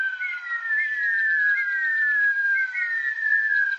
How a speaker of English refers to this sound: As the Rhea eggs are about to hatch, the chicks, while still inside the egg, begin to make a curious whistle. Imagine 50 or more, all whistling at once.